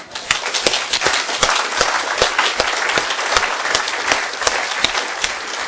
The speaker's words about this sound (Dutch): Ik zou nou gewoon eens voor hen allemaal eens een heerlijk applaus willen horen.